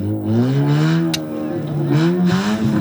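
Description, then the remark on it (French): A carnival car's engine revs hard as it pulls away at takeoff, its pitch climbing and dipping in loud surges for a few seconds with a short sharp burst midway. “C'est juste un petit démarrage, ça fait du bruit, mais ça fait peur, c'est tout.”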